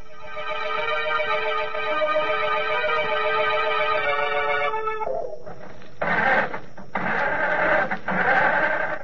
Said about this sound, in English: I can't understand it. The motor won't turn over. Somebody must have meddled with this car while we were in the house.